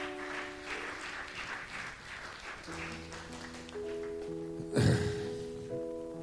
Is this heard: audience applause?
yes